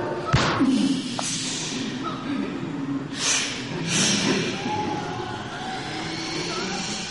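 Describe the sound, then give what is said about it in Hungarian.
A single sharp gunshot, fired to drive off some small wild animals, cracks out near the start, followed by a few softer bursts of noise and a steady rumbling background. “Eltűntek. A lövés elintézte őket.”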